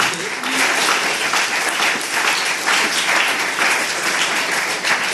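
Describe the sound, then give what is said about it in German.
Sustained audience applause, a dense wash of many hands clapping at a steady, fairly loud level for several seconds. “Ja, vielen Dank, finde ich total gut, hat einen Applaus verdient, weil man...”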